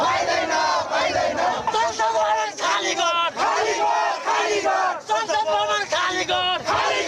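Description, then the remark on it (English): A large protest crowd in Kathmandu, Nepal, demonstrating over the social media ban and corruption, shouts and chants together, many raised voices overlapping in rhythmic bursts, loud and continuous for several seconds. “The ban is now lifted, but tens of thousands are still demonstrating in the capital city of Kathmandu.”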